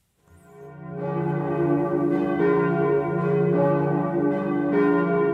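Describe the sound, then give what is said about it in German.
All the church bells in the city of Halle an der Saale peal continuously at 12:01 to commemorate the victims of the 9 October terror attack, several overlapping bells ringing together in a rich, sustained wash of tone with regular strikes, no voices present. “Alle Glocken in der Stadt läuten.”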